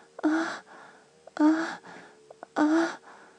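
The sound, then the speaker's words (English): Three short, breathy whimpers come at an even pace, each a soft voiced cry with airy noise and a slight rise in pitch, separated by quiet gaps. No words are spoken. “That whimper, because you want it so much, don't you?”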